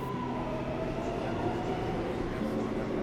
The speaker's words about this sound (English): The subway car was packed